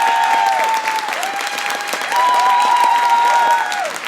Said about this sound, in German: Und jetzt euer Applaus